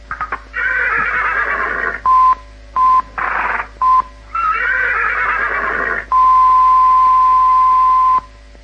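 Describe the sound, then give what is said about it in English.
Short telephone keypad dialing beeps alternate with loud horse-like whinnies, ending in one long, steady mid-pitched tone that holds for about two seconds. No one speaks. “It must be Princess Anne's antiphone, I think.”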